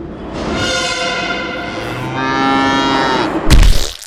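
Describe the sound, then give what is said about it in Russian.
A cow lets out one long, loud, drawn-out moo lasting about three seconds, cut off by a sudden heavy crash at the end as a metro train hits it at Barrikadnaya station. “Метрополитен сбивает корову на баррикадной.”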